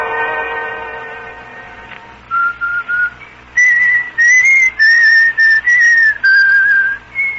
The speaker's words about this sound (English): Jesus, Mr. Corday, do you have to whistle that tune all the time? Oh, frankly, Miss Cora, it's getting me down, too.